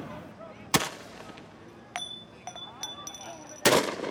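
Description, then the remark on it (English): Police at an intersection fire tear gas to disperse a crowd up to Main Street: two loud, sharp launcher bangs about three seconds apart, with several ringing metallic clinks and pings in between over a low, rumbling background. “But moments later, the police line reaches the intersection and fires more gas, dispersing the crowd up to Main Street.”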